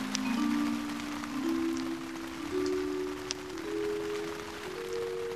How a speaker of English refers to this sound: The rain stops.